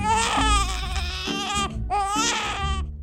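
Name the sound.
newborn baby crying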